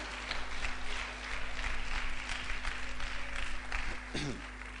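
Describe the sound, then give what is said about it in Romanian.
A crowd applauds steadily for a group of actors, dense overlapping claps forming a continuous wash of sound, with a brief voice or cheer rising near the end. “Vă rog să aplaudați acești artiști, niște actori incredibili.”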